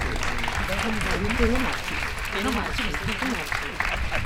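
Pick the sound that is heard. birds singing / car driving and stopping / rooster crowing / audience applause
audience applause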